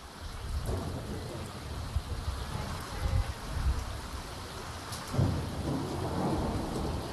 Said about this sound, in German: Freitagabend, 13. Januar 2023. 4 Tage regnet es jetzt schon in Folge. Die Wiese nahe des Tagebaus Garzweiler, südlich von Mönchengladbach, ist zu einem Sumpf geworden.